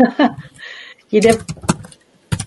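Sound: typing on a keyboard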